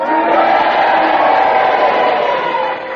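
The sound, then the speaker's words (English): A large audience cheers and boos together, voting on whether Peter's challenge against Clement Freud should stand: a dense, steady wash of cheers and boos mixed with sustained low voices, loud throughout and easing only slightly in the final moment. “Now, if you agree with Peter's challenge, then you cheer for him, and if you disagree, then you boo for Clement Freud, and you all do it together now.”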